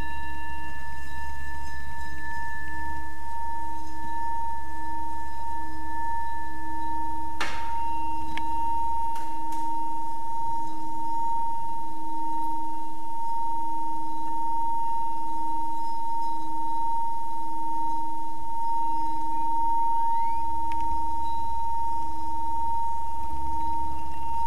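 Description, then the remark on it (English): A bell's ringing tone hangs steady for the whole stretch, several clear pitched partials humming together, with a soft strike-like tap partway through. No one speaks over it. “Listen to the sound of the bell.”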